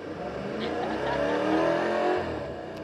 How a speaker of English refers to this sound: So that is the actual sound of the RS4 that was pre-recorded for a customer to actually experience without the car actually being here or being test-driven.